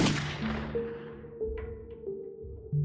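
sound effect, gunshot sound effect

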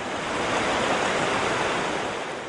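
nature, ocean waves

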